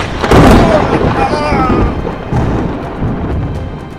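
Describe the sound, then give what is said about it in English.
A lightning bolt from the character Storm strikes a man's force field: a loud, crackling strike bursts in, a sizzling electric blast with a booming rumble that slowly fades and wavers over several seconds. “See if my lightning bolt can affect the last man's force field.”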